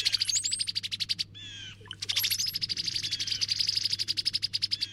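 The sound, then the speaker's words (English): Cowbird calls: rapid, steady runs of bright, high chattering notes with a short break partway through, thin whistles above and a faint low hum underneath. No one speaks. “It seems the cowbirds just want a smoothly running operation.”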